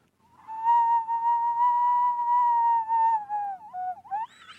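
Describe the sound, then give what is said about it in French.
A person vocally imitates a sound, a mix of rubbing and whistling, with a long, steady whistled tone held for about three seconds, then wavering dips and a quick rising squeal at the end, fairly loud, with no words. “Ouais, c'est un mélange de frottement et de sifflement.”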